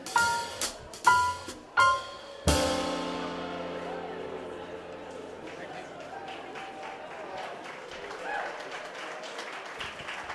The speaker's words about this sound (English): to all the volunteers and everybody who is involved, thank you very much. A big applause to all the volunteers. Thank you.